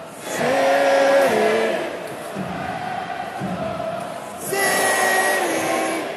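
A loud, sellout crowd of more than 11,000 at an Orlando City vs Cincinnati soccer match in Florida on a Saturday night roars steadily, with sustained tonal cheers or chants rising at the start, dipping in the middle, then swelling again toward the end.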